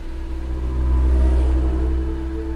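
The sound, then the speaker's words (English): A jeep engine rumbles steadily as it drives toward Lake Tanganyika, with a deep low drone and a humming tone that swells briefly in the middle before settling. No voices are heard. “I climb into his jeep and we head towards Lake Tanganyika.”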